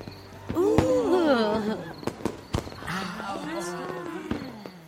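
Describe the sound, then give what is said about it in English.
Fireworks crack and pop in a few sharp, irregular bursts at a Fourth of July party, while several voices chatter and call out underneath throughout. “Them's nice fireworks.”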